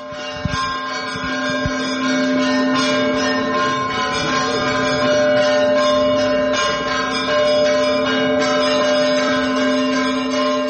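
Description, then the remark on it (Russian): Church bells of the Svyatogorsky Monastery peal continuously, several bells struck together in a dense, overlapping ring with sustained humming tones, loud, with no voices. “Сейчас вот в июле собираются, говорят, большой театр приедет, Бориса Годунова будет ставить с колоколами Святогорского монастыря.”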